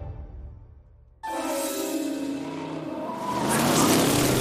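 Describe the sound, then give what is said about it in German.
A brown-and-yellow car's engine roars to life after a low rumble, revving hard and growing louder as it races through the streets at night, with no voices. “Ein braun-gelbes Auto raste durch die nächtlichen Straßen.”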